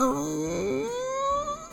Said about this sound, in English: and saw a beautiful woman crying. Just then I realized that that woman was my ex-wife, and she started to speak.